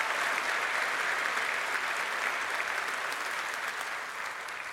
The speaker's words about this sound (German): Ja, erstmal einen großen Applaus für die Engel.